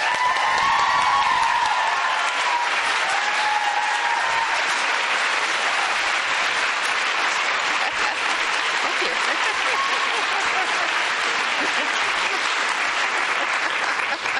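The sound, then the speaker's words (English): Sustained, loud applause from a large audience welcoming Diana Gabaldon, author of An Echo in the Bone, a dense even wash of clapping that holds steady for the whole stretch, with faint whoops and cheers mixed in at the start. “Please join me in giving a warm welcome to the author of An Echo in the Bone, Diana Gabaldon.”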